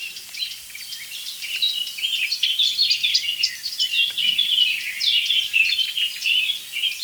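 Dense, continuous birdsong including a warbler, probably a blackcap, with rapid, bright warbling phrases overlapping one another, fairly loud and steady throughout, with no voices.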